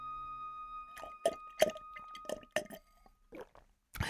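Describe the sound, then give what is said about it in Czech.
A can of beer taken from a fridge is cracked open, followed by a quick run of wet, fizzy pops and squishes, then a couple of softer liquid sounds. No one speaks. “Sáhla do ní a vytáhla plechovku. Zůstala na ní koukat. Otevřela ji.”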